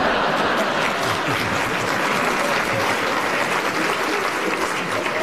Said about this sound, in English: You've got a round of applause for your flippancy, so we'll give you a bonus point for that.